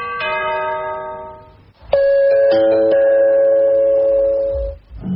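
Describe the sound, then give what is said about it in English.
A loud two-note doorbell chime rings out, a first tone fading before a second, longer tone sounds and rings on for several seconds, with no voices. “So tomorrow, happy ding dong day, Dairy Bell.”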